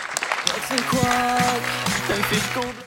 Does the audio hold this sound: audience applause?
yes